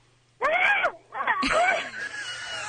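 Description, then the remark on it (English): A weak, strained attempt at a scream, made with the phone held away, breaking into a couple of wavering, hoarse vocal bursts over about two seconds, with no talking. “Yeah, you're right. That's a terrible scream.”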